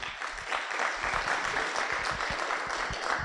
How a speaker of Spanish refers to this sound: Muchas gracias, pastor. Un fuerte aplauso, por favor.